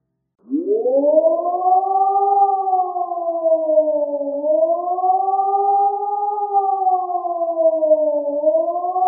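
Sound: civil defense warning siren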